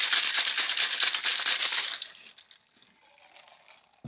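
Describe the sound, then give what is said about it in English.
Ice rattles hard and fast inside a cocktail shaker as a tiki drink is mixed, for about two seconds in a steady rhythmic burst, then fades to a few quiet clinks and taps. No one speaks. “So we have all our ingredients in here. We're gonna give it a little shake or 10.”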